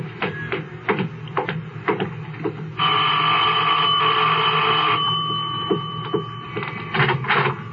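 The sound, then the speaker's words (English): A doorbell at a large older house, number 11920 Walter Road, rings in one long, steady electric tone lasting about four seconds, loud and unbroken, preceded and followed by scattered light clicks and taps. “I'll get the bell.”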